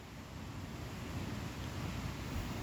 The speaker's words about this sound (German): Jede Welle spült deine Füße, mal bis zum Knöchel, mal bis zum Knie.